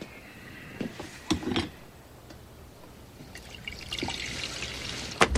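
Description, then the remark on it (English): Coffee trickles and splashes into a cup in a kitchen, with a few soft clinks and knocks of the cup, quiet, the pour rising in a steady stream near the end. “walks to the kitchen and pours another cup of coffee.”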